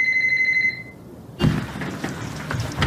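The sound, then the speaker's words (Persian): A telephone rings with a bright, high-pitched electronic tone that holds for under a second and fades, then a dull thump and a burst of rustling noise follow. “بس تلفن رو جواب نده ها.”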